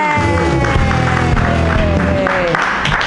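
A comedy show audience claps and cheers loudly for a comedian for about three seconds, a dense, steady wash of applause with some sustained tonal sounds mixed in, the level holding constant throughout.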